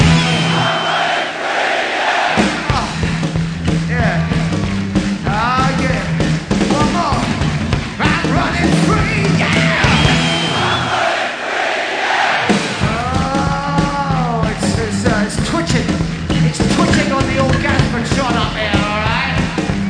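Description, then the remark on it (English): A big concert crowd screams and yells nonstop after the performer asks them to scream one more time, a loud, dense roar of many voices that stays at full intensity for the whole stretch, with a steady musical pulse beneath it. “I want you to scream one more time. Everywhere.”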